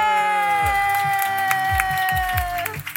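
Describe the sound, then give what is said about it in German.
An audience cheers and applauds for an arriving guest: a steady wash of clapping and shouting that stays loud throughout, with a sustained droning tone running underneath. “Das ist dein Applaus.”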